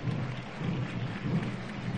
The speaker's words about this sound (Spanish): Aquí está el pretorio. Aplausos de la gente. Lo escuchan, ¿no? De fondo, amigos oyentes.